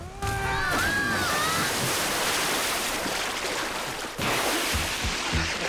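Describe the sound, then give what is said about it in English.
Loud, churning splashes of three people tumbling down a sheer slope and plunging into a pool at the bottom, with a steady rush of water filling the scene, a brief high cry near the start and a short break before the splashing surges again. “They bounce down a sheer bit and fall into a pool at the bottom.”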